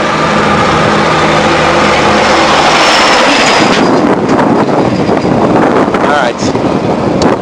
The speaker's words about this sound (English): And hold on, I'm on a skinny road, and here comes a huge dump truck. One second.